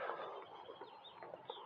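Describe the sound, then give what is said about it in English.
Birds call outdoors in a busy, continuous chorus of clucking, chattering notes, with higher chirps and short rising whistles layered over a steady background hum, with no talking. “Hear those birds?”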